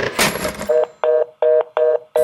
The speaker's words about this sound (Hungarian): Na, ez nem egy hoki meccs, ez egy kürtje, támadás. Ez a katonazene igazából nem zene, és onnan ered, hogy egy csatában igen nagy az ordítozás.